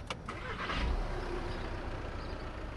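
A 2009 Jetta Clean Diesel car engine cranks briefly with a clattering burst, catches, and settles into a steady, low, fairly quiet idle with a faint ticking rumble.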